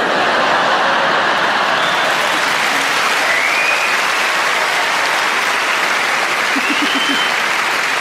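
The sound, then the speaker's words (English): Sustained applause from a large audience, a dense steady wash of clapping filling the whole stretch at constant loudness, with a few scattered laughs mixed in. “And from the clapping, I can tell I'm not the only one.”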